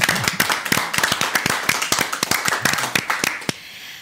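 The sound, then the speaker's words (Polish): A burst of applause from several people, dense overlapping claps that keep a steady pace for a few seconds, then thin out to a final sharp clap before fading. “również wielkie brawa.”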